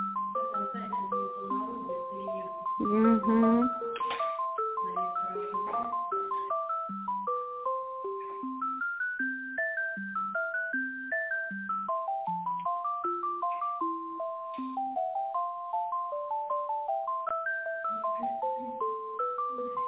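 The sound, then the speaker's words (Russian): A telephone ringing tone plays as a simple electronic melody over a thin phone line, looping steadily while a call being transferred within a company in Ufa goes unanswered, with no one talking. “Трубочку не берет, может, на обед вышел. Звонок вернулся хорошо.”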